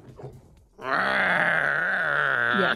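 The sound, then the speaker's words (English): A person's voice imitates the MGM Studios lion roar: after a brief low murmur, one sustained, gravelly, harmonically rich growl holds loudly for about two seconds, then cuts off abruptly. “You know how the MGM Studios has that, you know?”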